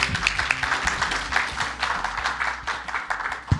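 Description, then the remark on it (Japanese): An audience at the J-REIT Fan event in Tokyo applauds steadily to welcome a speaker from Takada Reiben REIT, dense overlapping claps forming a continuous bright crackle that holds at an even, fairly loud level throughout, with no voices. “皆さん大きな拍手をお送りください。”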